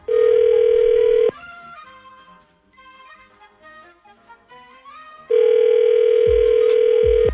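A loud, steady telephone dial tone hums for about a second before a call is placed, gives way to a quieter run of shifting electronic tones, then the same flat dial tone returns at full strength.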